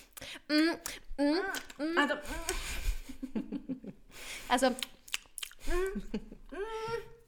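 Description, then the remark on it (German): A voice mimics someone trying to talk with a mouth full of food, producing muffled, garbled mumbling in short bursts with smacking, chewing-like sounds and a few breathy chuckles, fairly loud. “Dann einfach ihr Maul halten und zu Ende kauen und dann erst reden.”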